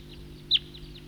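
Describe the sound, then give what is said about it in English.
A single short, high-pitched tooping call from a bird stands out clearly, with a few fainter similar notes around it over a steady low background hum. “That's the tooper.”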